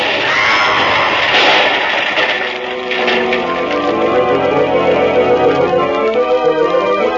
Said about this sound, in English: Just at midnight it was, officer. And I'm standing at the window when up above there's an explosion, fair to wake the dead.